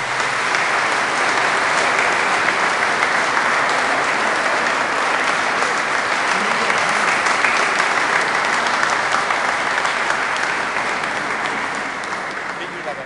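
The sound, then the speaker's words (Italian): A church audience claps steadily for about thirteen seconds to welcome a child the parents present to the assembly, a dense, even wash of many hands that holds loud throughout and tapers slightly at the end, with faint murmuring underneath. “Invito i genitori a mostrare all'assemblea, l'assemblea ad accoglierla con un applauso.”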